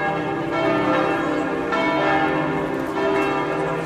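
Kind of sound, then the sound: signal or alarm, church bells ringing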